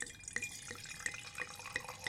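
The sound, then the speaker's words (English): Wine being poured into glasses as ASMR, a steady run of liquid broken by regular gurgling glugs about three times a second, each with a bright, ringing plink. No talking. “Yeah, okay, I'll pour some glasses.”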